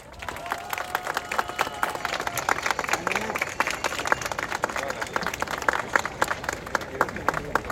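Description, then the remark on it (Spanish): Steady applause from a crowd of workers, civil society members and neighbours, many hands clapping in a dense, continuous patter that holds at an even loudness for several seconds, with faint voices mixed underneath. The applause marks 100 days of service of the borough administration. “Primero que nada, un aplauso para todas y todos ustedes por esta entrega y servicio de estos 100 días.”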